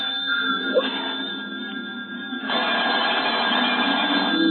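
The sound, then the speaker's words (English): A telephone bell rings in a steady, continuous burst, growing noticeably louder partway through, with a thin, tinny, old-recording quality and no voices. “Don't answer. Hello?”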